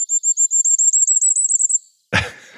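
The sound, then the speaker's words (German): A firecrest sings a rapid, very high, thin run of notes that swells slightly toward the end, clear for nearly two seconds, followed by a short rough burst of noise. “Ich spiele noch einmal für euch das Sommergoldhähnchen zum Abschluss ein.”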